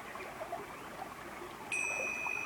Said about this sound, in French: Si le mental me distrait, j'en prends conscience et je reviens à ma respiration. La cloche me ramène à mon inspiration.